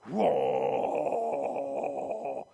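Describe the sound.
A voice imitates a house generator growling after the main 220 switch is thrown, a low, rough, sustained drone that rises in quickly, holds steady and loud for about two seconds, then stops abruptly.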